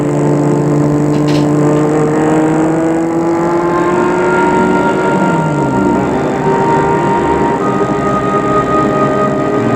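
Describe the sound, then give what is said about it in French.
A car drives steadily along a road toward Paris, its engine droning loud throughout, with a low rumbling hum and gently shifting pitch as it cruises, no voices present. “Continue à rouler en silence.”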